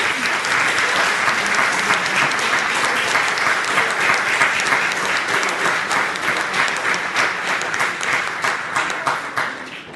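Sustained applause from a crowd, a dense wash of many hands clapping at a steady, loud level for the full stretch, thinning slightly toward the end with a few individual claps standing out.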